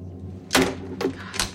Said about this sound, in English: Diana slams the receiver on the nightstand.